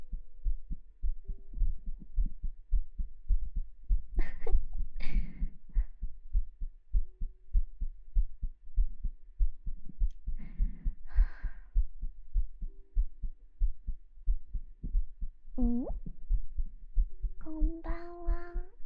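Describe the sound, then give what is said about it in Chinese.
An amplified heartbeat thumps in a steady, fairly quick rhythm for the whole stretch, with a few brief voice-like sounds popping up over it. “你的心跳变快是什么东西啊？”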